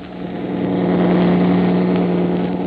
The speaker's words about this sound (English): Maybe it's a farmer's pickup truck. No, no, it's too heavy.